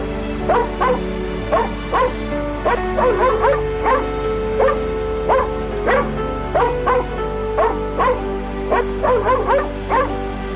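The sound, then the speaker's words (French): A dog barks in short, repeated yelps, some coming in quick clusters, mixed with whimpering cries, over a steady low background hum, with no one talking. “Et elle laisse le chien la suivre.”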